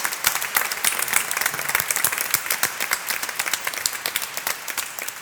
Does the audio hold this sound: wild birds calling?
no